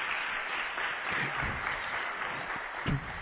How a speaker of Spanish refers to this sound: quiero que también le demos un aplauso enorme